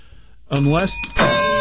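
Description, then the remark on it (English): A bell sound effect rings out loud after a brief hush, with two bright chimes in quick succession, the second one ringing on steadily to the end. “Ring the bell.”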